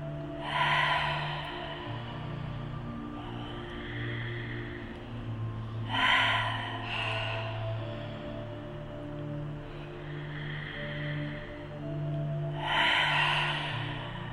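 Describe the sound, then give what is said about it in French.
Slow, deep breaths drawn in and released during a guided breathing exercise, with several airy breath cycles over a soft, sustained low musical drone and no talking. “Vous allez inspirer et à l'expire, vous allez lâcher l'air qui vous remplit.”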